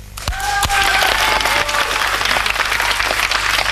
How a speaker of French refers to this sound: On applaudit ?